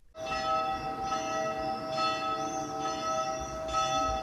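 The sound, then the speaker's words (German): Church bells in the quiet village of Egliswil, population 1300, near Lenzburg in Aargau, ring continuously on a summer evening with rich, sustained tones, the strikes overlapping in a steady peal that fills a quiet outdoor space, moderately loud and without any talking. “Es ist ruhig, ausser der Kirchenglocken und den Vögeln hört man nicht viel.”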